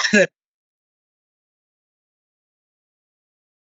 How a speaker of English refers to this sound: Oh, no, he coughed, and now we don't hear him.